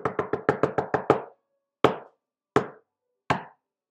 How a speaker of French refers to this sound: Il est revenu vers la maison des petits chevreaux. Et là, de nouveau, il a frappé à la porte.